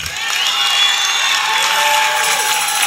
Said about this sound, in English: So let's hear some cheers.